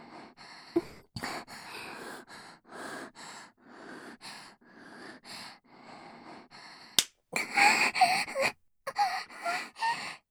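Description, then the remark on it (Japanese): A person moans and cries out over and over in rhythmic, breathy bursts, growing louder toward the end, with a few sharp slapping smacks of a hand spanking the buttocks cutting in between the cries. “ああ、いい声で泣いてくれますね。”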